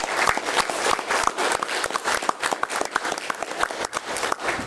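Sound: audience round of applause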